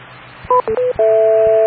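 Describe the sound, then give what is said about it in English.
Four quick electronic tone beeps from a radio repeater link, the last held steady and longer, heard clearly over a faint low background hum. “So we don't wait for all four beeps.”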